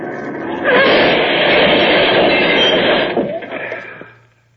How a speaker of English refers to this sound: This 10-ton truck does a nice job when it hits a tin can like that.